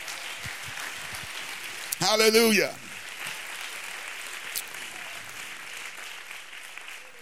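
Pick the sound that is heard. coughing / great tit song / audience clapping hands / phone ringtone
audience clapping hands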